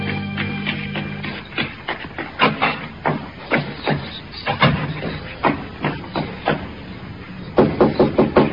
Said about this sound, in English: It was clear to me that she was disturbed about something, so I knew she would want to see me. I waited for her knock.